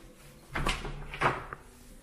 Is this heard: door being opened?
yes